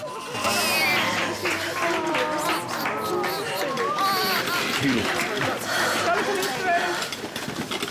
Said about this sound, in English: People applaud and a baby's delivered.